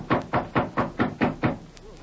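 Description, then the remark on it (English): Six quick, evenly spaced knocks on a wooden door, firm, in a steady rhythm before fading into quiet. “Here's York's door. I'll knock to let him know we're here.”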